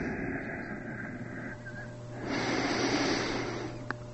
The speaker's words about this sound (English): Breathe in and out. And on the out-breath, bring your head down, your back up, and your tailbone in.